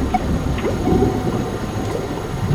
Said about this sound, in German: Hört ihr das Geblubber? Jetzt geht's in die Tiefe. Die Tanks laufen mit Wasser voll und wir gehen auf Tauchstation.